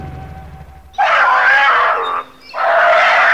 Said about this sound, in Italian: Dottor Alec, cos'è questo rumore? Sembra un cucciolo di tigre. È anche spaventato. Forse sta per essere vittima di un predatore.